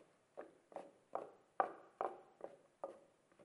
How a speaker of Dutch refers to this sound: Het is eigenlijk alsof ze op klompen lopen. Zo, over dat paadje.